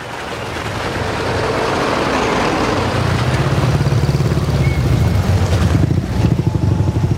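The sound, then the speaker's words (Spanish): Official cars arrive escorted by motorcycle units, their engines rumbling steadily, the low droning growl building and holding loud throughout, without any voices. “Llegan coches oficiales escoltados por unidades motorizadas.”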